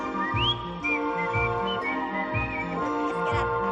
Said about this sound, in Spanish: Ella está descojonándose, jajaja, se le olvida la letra porque está silbando.